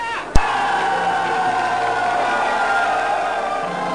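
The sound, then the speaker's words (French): A large crowd at a harbour entrance stirs and cheers as the ship Lutèce returns with its crew, a dense, sustained roar of many overlapping voices and shouts, opened by a single sharp crack near the start, then holding steady and loud throughout. “Mais il me semble que la foule s'agite vers l'entrée du port.”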